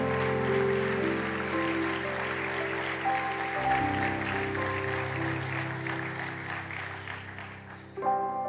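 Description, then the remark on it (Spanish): An audience claps steadily in celebration of God, a dense, sustained wash of applause over held keyboard chords that shift partway through, staying fairly loud throughout with a brief swell at the end. “Dale un aplauso.”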